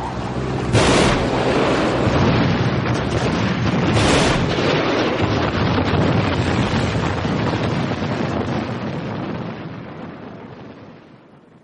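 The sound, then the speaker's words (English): A boat rushes across open water toward a swimmer amid wind and spray, a steady loud churning roar broken by two sharp splashes early on, then slowly fading toward the end. No one speaks. “The boat comes swinging toward me.”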